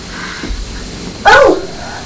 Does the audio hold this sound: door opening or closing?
no